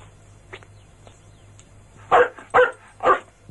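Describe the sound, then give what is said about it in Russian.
A dog barks three times in quick succession, loud, after a softer yip near the start, over a low steady background hum. “А вообще-то, поводок нужен, намордник и билет собачий.”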